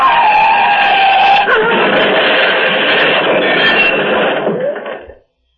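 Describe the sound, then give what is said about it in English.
A loud car skid: an out-of-control car's tires shriek continuously for several seconds with a harsh, grinding roar underneath, shifting pitch partway through, as it rams head-on into a cylindrical bridge support, and the noise cuts off abruptly. No one speaks. “The car is crushed against one of the cylindrical bridge supports, rammed against it head on.”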